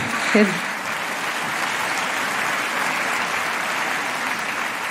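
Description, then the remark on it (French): An audience at Blanche Gardin's stand-up show Bonne Nuit Blanche applauds in a steady, dense wash of clapping that holds at a fairly loud, even level throughout, with a brief vocal shout near the start. “C'est bien que vous applaudissez à ça.”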